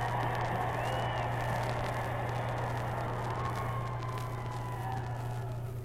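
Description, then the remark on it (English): A large stadium crowd in Chicago cheers for the President in a steady, dense roar that barely rises or falls, with faint high whistles cutting through and a constant low hum beneath. “Now that the cheering for the President has subsided, I will conclude by saying that this vast assemblage inside the stadium and the 150,000 people who marched on foot to this meeting and are now unable to get inside constitute the best evidence”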